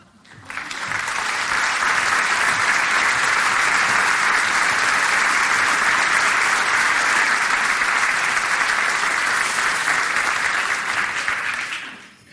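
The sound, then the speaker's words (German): Sustained applause from a large audience welcoming Vince Ebert, a dense, steady wall of clapping that swells in quickly, holds evenly loud for about eleven seconds, then drops off abruptly. “Begrüßen Sie mit einem großen Applaus Vince Ebert.”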